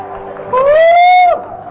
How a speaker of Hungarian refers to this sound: Tapsoljunk bátran neki!